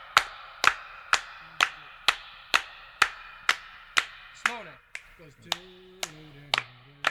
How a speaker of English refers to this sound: Here, clap. One, two, three, four. Get a sound.